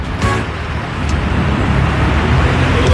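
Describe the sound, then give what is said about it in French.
Steady engine rumble and road noise of a new car in motion, a continuous low drone filling the whole stretch with no voices over it. “Complètement, complètement, c'est ta nouvelle voiture, c'est toi qui conduis, c'est la règle.”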